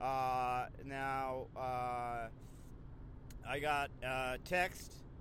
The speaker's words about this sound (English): I am in my car driving right now, so hopefully the road noise is not too bad. If it is, what you could do is you could listen to this also in your car. That way you'll just think it's the road noise from where you're driving.